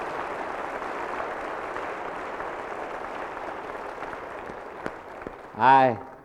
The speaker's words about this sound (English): I add my applause with yours because there are so many of us who have rejoiced at the light that emanates from this place.